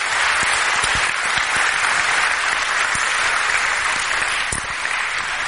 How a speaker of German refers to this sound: Und ich finde, wir können ihm mal einen Applaus nochmal geben.